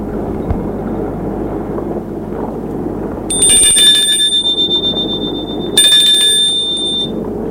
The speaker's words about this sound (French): Ils sortent et Paul sonne à la porte.